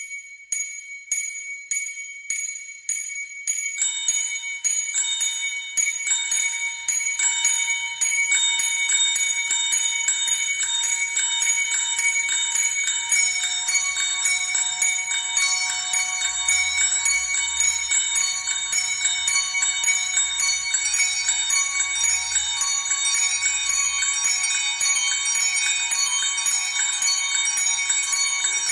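Church bells ring out loudly, beginning with a single bell struck in a steady rhythm before more bells join into a dense, continuous peal with long ringing overtones.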